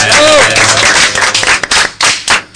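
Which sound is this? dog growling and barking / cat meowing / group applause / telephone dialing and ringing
group applause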